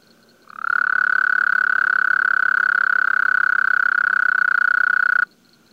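A Gulf Coast toad, nearly 5 inches long, gives one long, steady trill lasting several seconds, loud, with a buzzy rapid pulsing at a fairly low pitch of around 1,300 cycles per second, starting and stopping abruptly with no voices.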